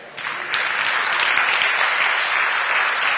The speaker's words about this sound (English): I'm listening for the applause.